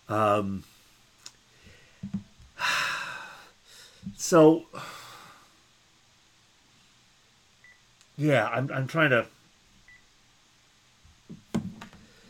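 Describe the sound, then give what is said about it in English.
A telephone rings in short, warbling electronic bursts separated by pauses, with a few faint, brief beeps and clicks in between. “Sorry, the phone rang and it just completely confused me.”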